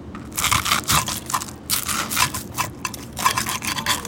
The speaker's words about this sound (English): And that crepe's made with rice flour, so it's extra crispy. So when you cut into it, you hear the crunch. But that's really important for banseo. If you get a soft, smooshy banseo, that's not banseo.